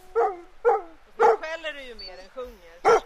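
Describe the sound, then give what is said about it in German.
A dog barks four times in short, sharp bursts during a daily half-hour walk on an island in a skerry archipelago, three close together and one after a pause, with a drawn-out whine or voice-like sound in between. The barks are fairly loud. “Eine gute halbe Stunde dauert der tägliche Spaziergang mit dem Hund.”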